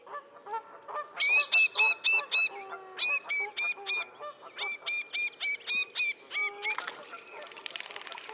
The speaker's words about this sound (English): Little grebes have a number of anxiety calls, such as this from an individual at close range.